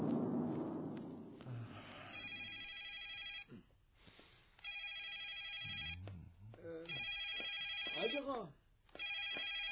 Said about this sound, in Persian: تلفون هم که داره خودشو میکشه.